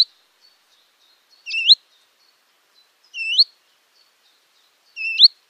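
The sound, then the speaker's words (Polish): A willow warbler's alarm call, from a recording on the xeno-canto.org ornithology portal: three short, rising upslurred whistles, high-pitched and clear, spaced evenly about two seconds apart with silence between them. “Głos alarmowy, bardzo podobny.”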